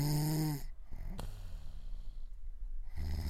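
A loud, rattling snore from a younger sister in the middle of the night, followed by a sharp snort and a long noisy breath, then another low snore starting at the end.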